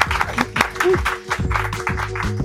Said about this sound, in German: Auch für dich erstmal ein Applaus. Dankeschön.